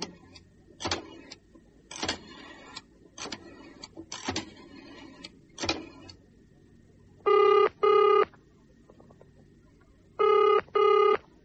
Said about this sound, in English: Then, he dials a phone number.